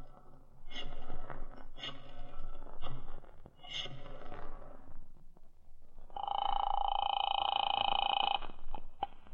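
A telephone being dialed: a few seconds of clattering mechanical clicks and rattles, then a steady, sustained electronic ringing tone on the line. Nobody speaks.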